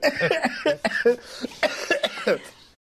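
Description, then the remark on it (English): A fairly loud run of coughs: a rapid series of harsh, throaty bursts lasting under three seconds, with a bit of throat clearing mixed in, and no talking. “Tell us what it did, please, while I cough.”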